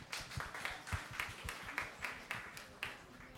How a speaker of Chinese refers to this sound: 我们用掌声多谢我们的上帝好吗？